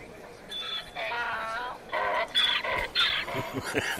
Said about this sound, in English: Sorry, that's a Christmas donkey.